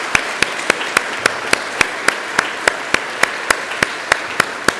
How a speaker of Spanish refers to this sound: Así que a todos los niños y niñas les pido que le demos un fuerte aplauso a los papás hoy. Fuerte aplauso. Muy bien, que se escuche.